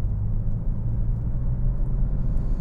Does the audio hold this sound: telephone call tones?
no